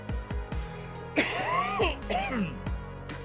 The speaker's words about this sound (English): God, I got real ripped. I'm coughing so fucking bad. That's how you know you're fucking high.